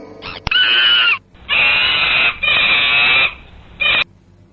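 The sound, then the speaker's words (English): A monkey screeches loudly in a series of shrill, harsh calls: two long cries, a third, then a short final shriek, with no talking. “M for monkey.”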